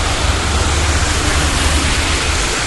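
Cars driving on a wet street in a very slow rain make a steady, loud hiss of tire spray over a low rumble, continuous and unbroken, with no voices.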